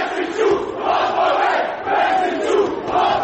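A crowd outside a gallery in Belgrade whistles and shouts "Vesiću lopove" at deputy mayor Vesić as he leaves the gallery, a dense continuous roar that swells in repeated waves of overlapping voices, with no single clear speaker standing out.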